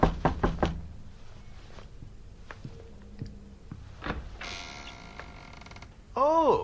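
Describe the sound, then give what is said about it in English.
A quick cluster of four or five firm knocks on the door of room number 5, where a reverend is staying, followed by a quiet pause, a drawn-out creak, and a voice starting up at the very end. “Should I knock or listen to him for a while?”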